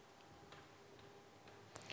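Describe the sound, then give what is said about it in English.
A clock ticks steadily and quietly, roughly two ticks per second, with a slightly sharper tick near the end and no voices over it. “If this were the Great British Bake Off, then they would have said to Rebecca, "Your time starts now. The clock is ticking."”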